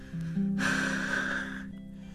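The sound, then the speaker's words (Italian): A low voiced hum swells into one long, forceful, breathy exhale lasting about a second, like someone blowing warm breath onto a baby, then trailing into quiet. “Alita sul bimbo ha sicuramente freddo.”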